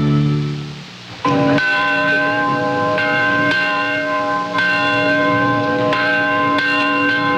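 Big church bells peal loudly and steadily for 52 Americans returning home, several strikes overlapping into a rich, ringing wash of tones that hangs in the air with no voices.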